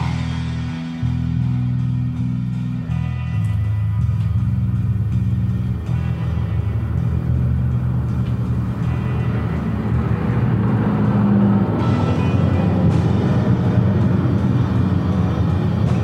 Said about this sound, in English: Military helicopters.